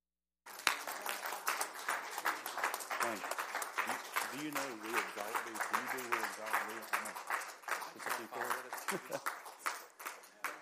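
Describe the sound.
A church audience stands and bursts into dense, sustained hand clapping and applause for their pastor, with cheering and raised voices mixed into the steady roar throughout.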